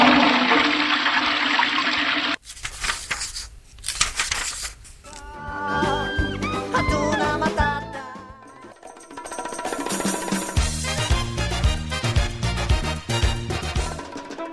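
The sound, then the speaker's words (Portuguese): A toilet flushes with a brief, loud rush of water lasting a couple of seconds, then cuts abruptly into an upbeat musical jingle that carries on to the end. “Portanto, descarga na cabrinha embusteira pra mim.”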